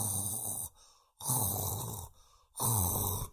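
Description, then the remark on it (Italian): A voice imitates a wolf snoring loudly and desperately: three harsh, rasping snores in a steady rhythm with short quiet breaths between, forceful. “russa come un disperato.”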